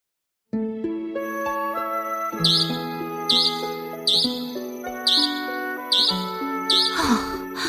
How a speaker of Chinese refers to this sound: 不是吧，这么晚了，超讨厌这种汽车防盗的啦。 这个汽车警报器让我想起一种台湾常见的鸟类呢。